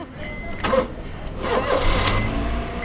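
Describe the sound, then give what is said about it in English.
A Toyota Corolla car engine rumbles steadily, with a low, constant drone and a couple of brief louder surges, as if the motor is just starting and revving lightly. “And this is very much famous and this is very much secure car named by the name Toyota Corolla.”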